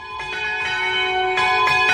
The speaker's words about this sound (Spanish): Y escuchamos ahora campanas de llamada a Huebra.